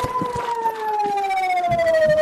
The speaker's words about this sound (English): Then, sirens.